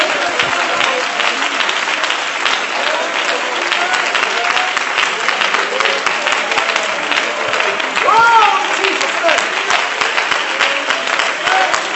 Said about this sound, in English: Clap your hands and praise the Lord with me right now.